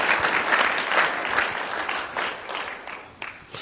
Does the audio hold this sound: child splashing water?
no